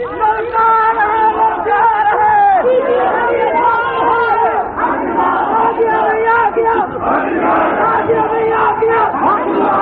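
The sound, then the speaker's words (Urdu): A large crowd at a gathering chants slogans in unison during a speech, many voices shouting loudly and continuously with rising and falling pitched calls, a dense roar that never drops away. “نعرے کم بھائی، نعرے کم۔”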